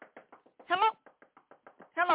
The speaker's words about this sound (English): Hello? That's me knocking on the door of your dreams.